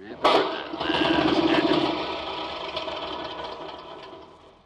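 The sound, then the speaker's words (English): A lawnmower engine kicks in with a sudden sharp burst, then chugs along in a steady, rattling, knocking drone that slowly weakens over the next few seconds. “Don't tell me. Tell the lawnmower.”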